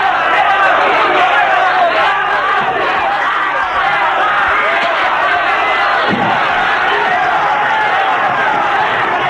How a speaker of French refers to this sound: La foule crie.